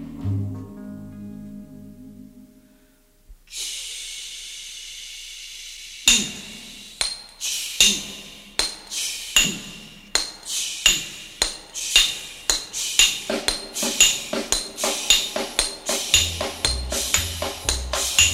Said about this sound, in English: Listen to hammer swingers talking to you.